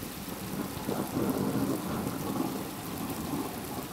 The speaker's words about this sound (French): C'est une odeur typique des systèmes écologiques dans lesquels nous nous situons, celle de la terre mouillée après des mois de sécheresse sur laquelle éclatent soudainement de violents orages.